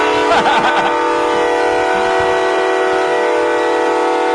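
A loud, sustained air horn blast at a Hanover Horton football game, with a rich, brassy tone, holds steady for several seconds, piercing, with faint crowd noise underneath at the start.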